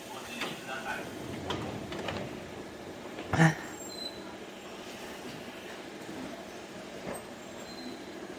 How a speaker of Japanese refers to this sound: ご注意ください。3番線渋谷駅発車します。